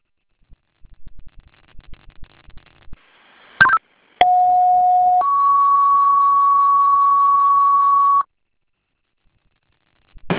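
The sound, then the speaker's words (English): A two-tone fire dispatch page for Webster Fire striking a second alarm for a reported structure fire at 17 Broder Ave: a steady lower tone for about a second, then a longer, higher tone holding for several seconds, loud and clean, preceded by scattered clicks and a short burst. “Fire alarm striking second alarm at Silent Webster Fire.”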